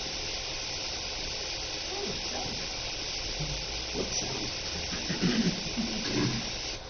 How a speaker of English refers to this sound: So right now, the water master allowed 4 CFS to come into the ditch at this point. And this is the first day that water's been in this ditch.